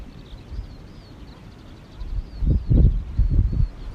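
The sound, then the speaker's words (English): Faint birds chirp and sing throughout, thin and high, while low rustling and muffled bumps swell up in the second half. “Birds, the sounds of the creatures, all are welcome.”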